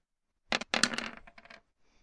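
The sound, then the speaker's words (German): Several dice are rolled for an attack in a game, clattering and tumbling across a hard table surface in a quick burst of sharp, rattling clicks that taper off into a few scattered final taps. “Ist ja direkt Schaden am Würfeln mit 1000 Würfeln, Alter.”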